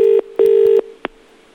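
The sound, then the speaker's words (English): A telephone line tone, on calling the Majestic Cinema in King's Lynn, sounds in two loud, steady bursts, a short one then a longer one, followed by a sharp click and a quiet line. No one speaks. “this is what you get when you phone that cinema.”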